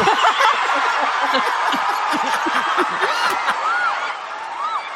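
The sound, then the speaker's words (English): A large audience at a Miss Universe pageant cheers and shouts continuously as Colombia is announced, a dense roar of many voices with scattered whoops and high-pitched screams rising above it, loud throughout. “They're all cheering.”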